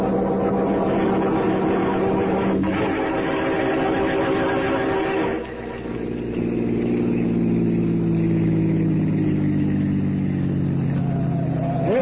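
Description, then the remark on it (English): A car drives along with a steady, rumbling engine drone, then shifts gear partway through and picks up speed with a rising whine. The engine noise is loud and continuous, with no voices. “I got my car outside so we can get there ahead of Parker.”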